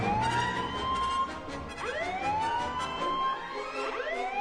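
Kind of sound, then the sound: signal or alarm, alarm sirens blaring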